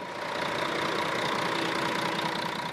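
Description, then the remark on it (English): A bus engine idles steadily in the West Bank early on a Sunday as Palestinian women board buses, a continuous low rumble with a faint mechanical hum, holding at an even loudness throughout with no voices. “is one of 3,000 Palestinian women boarding buses across the West Bank early Sunday.”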